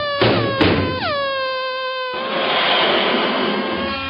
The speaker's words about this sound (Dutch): In de prille ochtendstond rolde een lange trein vrachtauto's nader. Het landschap in stof en damp hullend.